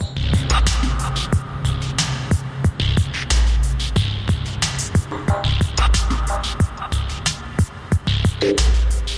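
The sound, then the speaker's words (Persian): A dub techno synth loop with a deep throbbing low pulse and hissy, filtered chords that swell and fade like mechanical breathing, punctuated by steady crisp clicks, with no voices. “خودش رو به شکل این صدایی که انگار صدای نفس کشیدن یک ربات نشون میده.”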